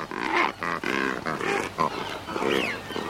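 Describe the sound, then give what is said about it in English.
A shag calling: a rapid series of rough, rasping grunts, about six in a row, fairly loud and pig-like, with a brief squeaky rising note near the end and no talking. “This is 82, and it's a shag.”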